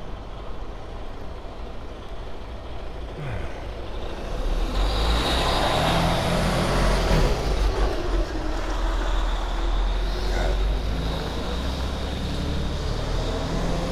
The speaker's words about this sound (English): I always stand in awe of semi-trucks that navigate urban streets. Massive behemoth trucks that need these massive turning radiuses just to navigate, and they're just making their way down the city streets.